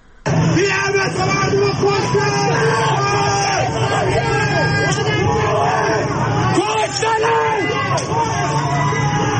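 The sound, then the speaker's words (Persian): A loud crowd at a protest in the Zeynabieh district of Isfahan, Iran, shouts and yells over one another after a person is shot, in a dense, continuous roar of voices, with rising cries and wails breaking through the babble for the whole stretch. “اینجا منطقه زینبی اصفهانه که یه نفر مورد تیر مستقیم قرار میگیره و مردم خیلی شروع به داد و فریاد میکنن.”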